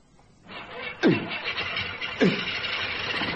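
A propeller plane engine is started by swinging the propeller by hand; it cranks and catches, with two sharp coughing bursts as it fires, then settles into a steady, loud, rough roar.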